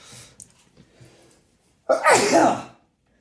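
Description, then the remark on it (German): A single loud sneeze bursts out after a brief stretch of soft murmuring, sharp and explosive with a breathy tail that fades quickly into silence. “Haben wir es jetzt? Gesundheit.”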